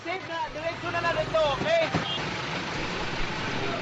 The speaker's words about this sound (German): Die Lkw mit dutzenden Menschen auf den Pritschen kämpfen sich durch Wasser und Schlamm vorbei an Autowracks, die Kraft der Sturzflut zu Bergen aufgetürmt hat.